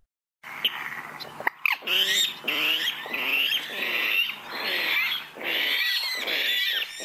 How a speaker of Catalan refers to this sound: Bueno, d'entrada, dir-vos que potser us pensàveu que us havia portat un porc avui, perquè aquest soroll que fa, doncs, a vegades semblaria més un porc que un ocell.